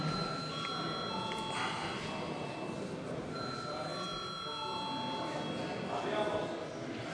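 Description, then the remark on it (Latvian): A parliament chamber's voting bell rings continuously for about seven seconds, a steady, even, metallic electric ringing at constant loudness, with a soft murmur of voices underneath. It is rung at the chair's request before deputies vote on the ninth proposal. “Lūdzu zvanu.”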